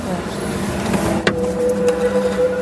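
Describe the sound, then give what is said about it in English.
A single sharp mechanical clunk of car central door locks engaging, brief and fairly loud, cutting through a steady low vehicle hum with a faint tonal whine. “You've locked the doors, sometimes you don't want to.”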